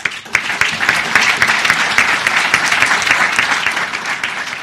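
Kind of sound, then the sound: crowd, prolonged audience applause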